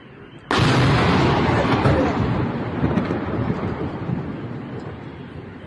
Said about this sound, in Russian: А, в дом попали. Во, этот. Сбило дрон, и дрон в дом упал. Реально, дрон.